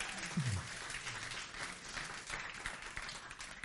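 Sustained applause from an audience, a dense wash of many hands clapping at once, steady and fairly loud throughout with no voices standing out.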